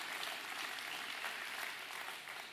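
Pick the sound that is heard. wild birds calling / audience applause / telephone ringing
audience applause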